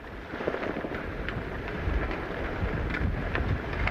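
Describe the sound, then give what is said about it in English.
Heavy rain lashes down at sea near South Rock, off the southern shore of County Down, under an overcast sky, in a dense, continuous roar, with gusting wind buffeting the microphone and low rumbling underneath. No one speaks. “It's lashing with rain.”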